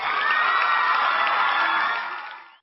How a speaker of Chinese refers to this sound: 啊，我先来个掌声啊，热烈的掌声。